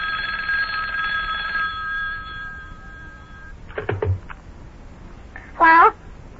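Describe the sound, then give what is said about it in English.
A telephone bell rings in one sustained burst that fades away after about three seconds, followed by a few soft clicks and a brief, high, wavering cry near the end. “Uh-oh, telephone's ringing again.”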